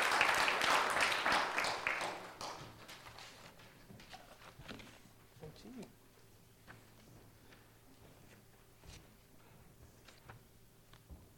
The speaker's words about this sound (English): Well done. Round of applause. Thank you for helping.